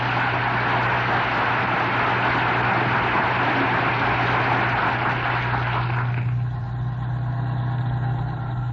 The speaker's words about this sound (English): here, speeding homeward as fast as modern streamlined transportation will carry them, yes, here on the bus, approaching Wistful Vista, we find Fibber McGee and Molly.